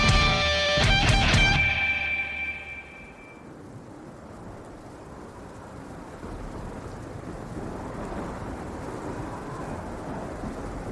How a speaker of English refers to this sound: You hear the crash of a bolt of lightning.